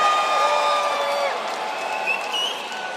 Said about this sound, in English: Everybody, put your hands up and clap, clap, clap, clap, clap, clap, clap, clap, clap, clap, clap, clap, clap, clap, clap, and make some noise.